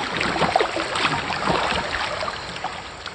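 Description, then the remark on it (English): Canoe paddling on the White River: a steady wash of splashing, trickling water with soft, irregular dips and swirls, no voices, fairly even in loudness throughout. “Here's what it sounds like paddling a canoe on the White River.”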